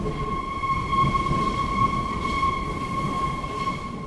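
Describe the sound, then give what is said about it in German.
Steady rumble of a crowded Berlin U-Bahn subway train in motion in winter, with a constant high electric whine riding over the low, rattling drone of the wheels, heard from inside the car with no voices. “Die Berliner U-Bahnen sind in diesen Tagen proppenvoll.”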